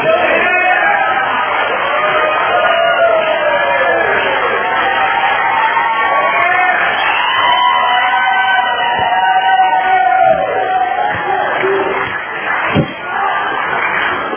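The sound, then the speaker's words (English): An audience applauds in a dense, steady roar of clapping that holds for the whole stretch, with scattered voices and cheers mixed through the noise before it eases slightly near the end. “And we're now supposed to give her another applause.”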